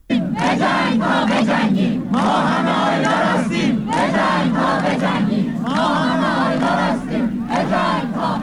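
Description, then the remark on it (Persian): A large crowd of students gathered at Tabriz University of Medical Sciences chants loudly in unison, rhythmic shouted phrases repeating in waves with brief pauses between, voices strong and sustained throughout. “در دانشگاه علوم پزشکی تبریز هم دانشجویان تجمع کردند و از آیلار حقی، دانشجوی سال چهارم پزشکی دانشگاه آزاد تبریز که 25 آبان با شلیک مستقیم مأموران حکومتی جانباخت، یاد کردند.”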